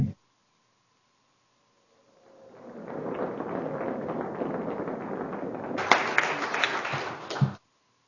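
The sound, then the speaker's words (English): In the Wyoming House of Representatives chamber, applause from the members swells in after a quiet moment, welcoming a county assessor from Converse County, a dense crackle of many hands clapping steadily for several seconds, peaking with a few sharper claps before cutting off abruptly. “I'd like to introduce the body to applaud.”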